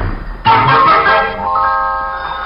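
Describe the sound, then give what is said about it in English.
A telephone rings with a sudden, bright, bell-like tone that starts abruptly, holds a shimmering harmonic ring for about two seconds, and then fades slightly while it keeps sounding. No one speaks. “The phone.”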